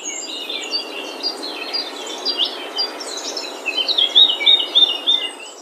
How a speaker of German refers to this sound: Okay, das ist irgendwie Vogelgezwitscher, oder?